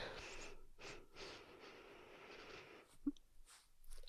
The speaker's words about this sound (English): But, come on, let's sniff the VapoRub together.